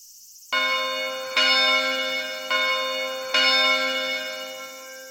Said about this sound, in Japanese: ここがさっき言ってた幸福の鐘だよ。綺麗な景色を見るのはもちろんだったけど、ここに連れてきたくって。一緒に鳴らしてみない？